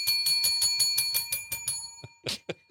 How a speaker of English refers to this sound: I'm just trying to make her feel like there's a lot of bells around.